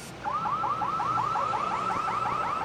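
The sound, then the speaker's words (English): An electronic alarm sounds continuously, a fast, steady train of rising warbling chirps repeating about five times a second over a low background hum, with no voices. “Could trigger an alarm system, could trigger communication system, which allows you to communicate to police or any type of response that you would like to have.”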